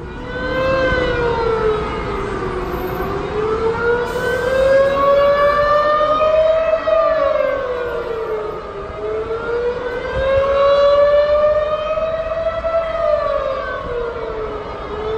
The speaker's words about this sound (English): Sirens are blaring, and everyone, even cars in the fast lane on the highway, have ground to a halt. A protracted 2 minutes later, the sirens stop